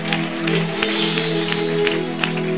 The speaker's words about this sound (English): Clap for Jesus. Clap for Jesus.